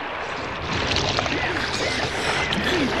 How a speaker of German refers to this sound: Eine Riesenwelle packte das Boot und warf es um. Julian und Dick stürzten ins Wasser